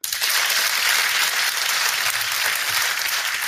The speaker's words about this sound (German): Also ich würde sagen, ihr kriegt auf jeden Fall erstmal beide einen Applaus.